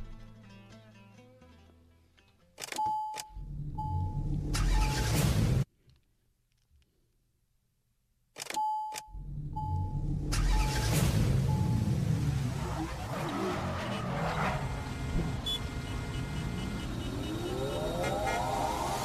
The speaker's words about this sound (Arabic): السيارة اختربت في البداية لكن ردت اشتغلت مرة ثانية. مستمعينا اللي سمعونا على الهواء سمعوا السيارة يوم لتشت شوية.